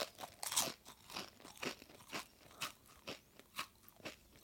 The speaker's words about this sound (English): And we're going to change the crunching sounds that you will hear as you bite into each one. And this time, think not about sweetness and bitterness, but think about how crunchy, crisp and fresh that potato chip is.